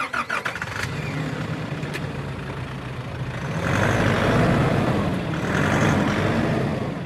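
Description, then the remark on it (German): A Guardia Civil off-road vehicle's engine runs steadily, with a few clicks and rattles at the start, then swells louder as it revs and accelerates on the way to the 6-metre-high, 10-kilometre-long border fence between Morocco and Spain; no one speaks. “Im Geländewagen der Guardia Civil geht es zum 6 Meter hohen und 10 Kilometer langen Grenzzaun zwischen Marokko und Spanien.”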